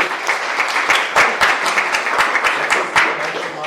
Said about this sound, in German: Einen kurzen Applaus. Vielen Dank.